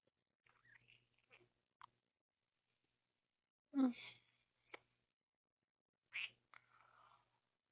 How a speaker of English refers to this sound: Mom's dog kissed me on the phone.